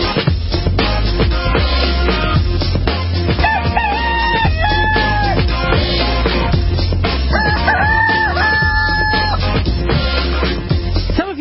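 A rooster crows twice, each call a long rising-and-falling cock-a-doodle-doo, loud, over a constant busy background of clucking chickens and farmyard noise.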